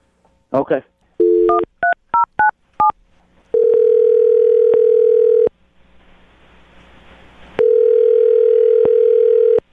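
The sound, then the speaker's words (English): A call placed from the radio morning show Brooke and Jubal in the Morning: a short run of telephone keypad dialing beeps, then a loud, steady ringing tone sounds twice with a pause between, like a phone line ringing at the other end, heard alone. “I'm about to get her on the phone and find out if the cat allergy is real, okay?”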